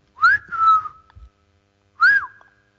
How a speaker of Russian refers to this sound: Ступая по какой-то цветочной куртине, мальчик подошел к стене, приложил лицо к одной из отдушин и свистнул.